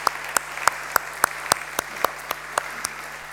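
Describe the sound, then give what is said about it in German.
An audience at an evening church service claps together to welcome newcomers in a steady, even rhythm, about a dozen sharp claps in quick succession, moderately loud with a faint hum of the room underneath and no voices. “Klatscht doch einfach mal zum Signal.”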